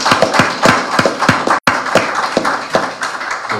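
A crowd applauds, many hands clapping in a dense, steady crackle with sharper individual claps standing out. It stays loud throughout, cut by one brief silent gap, and no one speaks.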